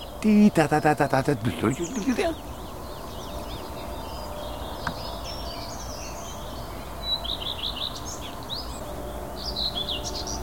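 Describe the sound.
A person talks briefly at the start, then a songbird sings in short, high, chirping phrases that repeat and vary, alternating two song motifs, over a steady outdoor background.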